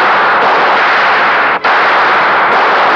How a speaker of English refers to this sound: He turned, at bay, pistol in hand, firing wildly.